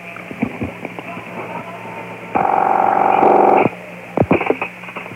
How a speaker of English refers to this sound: And we'll dial as we are dialing. And most likely they'll be ringing. You know, that's all you can do.